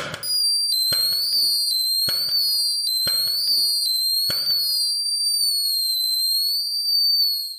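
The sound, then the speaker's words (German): On New Year's Eve, whistling rockets shriek in long, high, slightly wavering tones while several sharp firework bangs burst underneath in an irregular series, then the whistles trail on alone before cutting off. “Wie klingt Silvester? So lieblich und schön wie der Jugendchor gerade, der von himmlischen Glocken gesungen hat? Oder doch eher so?”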